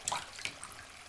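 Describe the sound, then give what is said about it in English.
A brief, soft trickle of water spilling and dripping from cupped hands as it is offered to drink, quiet, with a few small splashy patters and no voices. “Would you like to drink from my hands, dear husband? Water, not blood.”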